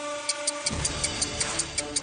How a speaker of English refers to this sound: You're going to hear a little bit of music. Don't start. And then as soon as you hear the ticking of the clock, you begin.